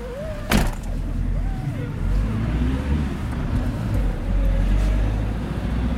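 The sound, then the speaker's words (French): A van drives along with a steady low engine rumble and road noise throughout, a sharp knock near the start and faint muffled voices in the background. “Je vais rendre un camion.”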